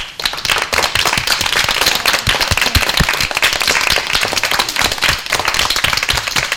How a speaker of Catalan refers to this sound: 5è B de l'Escola Sant Josep, que us he de dir que és una classe que no sé si s'haurà arribat a sentir en algun moment, però darrere de cada notícia han estat aplaudint. Jo crec que ara sí que ja us podeu aplaudir en equip, perquè ho heu fet molt bé.